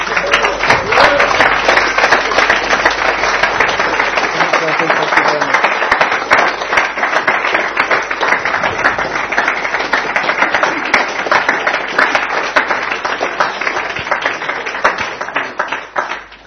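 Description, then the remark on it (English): A large gathering applauds steadily, a dense, continuous patter of many hands clapping that stays loud throughout before tapering off at the very end, a round of applause welcoming a person into the fellowship of faith. “Why don't we give a round of applause?”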